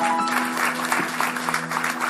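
A crowd claps steadily, a dense, continuous patter of many hands at a fairly even loudness, with a faint sustained tone humming underneath throughout.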